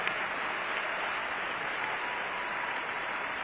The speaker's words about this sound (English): Clap your hands again and worship the Lord.